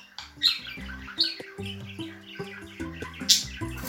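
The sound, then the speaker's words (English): Two pet budgies, one bright yellow and one greenish blue with a yellow head, chirp and squawk in a busy, overlapping chatter, with sharp bright calls popping out every second or so over a steady twittering background, clear. “Really distinctive, very pretty little birds.”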